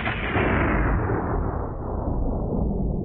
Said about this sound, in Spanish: ¿Ha escuchado alguno? Sí, es un rayo. Estos se producen cuando hay descargas eléctricas en la atmósfera.